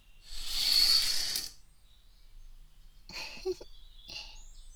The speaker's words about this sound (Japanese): 今日もとってもいい天気ですよ。ほら、お日様もこんなに明るくて、鳥さんもチュンチュン鳴いてます。